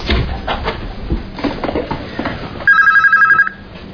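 A telephone rings once, a short, loud, warbling electronic trill that cuts in after some clattering and rustling handling noise, then stops abruptly.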